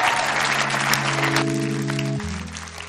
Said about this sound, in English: Come on. Come on. Can you give the Lord a big hand clap of praise today?